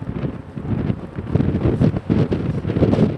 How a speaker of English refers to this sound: My journey starts on a windy day at the end of January at a port near the southern tip of Chile.